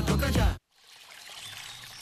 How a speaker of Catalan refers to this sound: Així sona una bona hidratació. Així sona l'aigua del Parc Natural del Montseny. I des del 1976, Font Agudes protegeix la seva puresa perquè tu en gaudeixis cada dia.